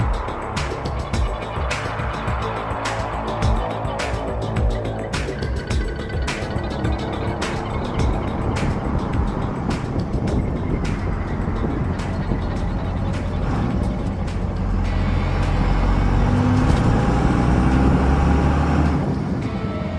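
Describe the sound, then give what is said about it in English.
A heavy truck engine rumbles steadily, rattling and clinking as the truck speeds off down a road, the low roar swelling louder toward the end as it picks up speed. “The truck speeds off down the road, leaving the old shitty car in the distance.”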